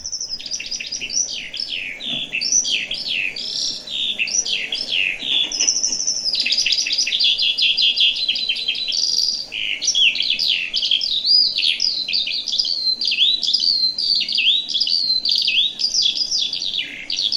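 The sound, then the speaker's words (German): A songbird sings nonstop for the whole stretch, a rapid, unbroken stream of high trills, warbles and chirps with no pauses, clear against a quiet background. “Und ich lasse mal einmal den Vogel laufen, dass man den auch mal hört.”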